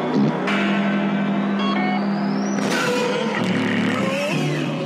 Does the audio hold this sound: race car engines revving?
yes